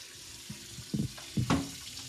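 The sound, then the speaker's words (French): Water runs from a tap in a steady, hissing stream, broken by a few louder splashy gurgles as the flow hits the sink. No one speaks. “Voilà, écoutez ça au robinet.”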